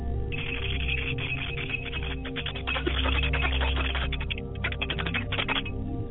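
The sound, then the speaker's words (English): A handbell rings as part of a ritual, in a fast, steady shake, its bright metallic strikes rattling on for several seconds with a brief pause near the end, over a low background hum and no voices. “And we ask that you, on a day-to-day basis, hear our call as we bring out a calling of the bell to you.”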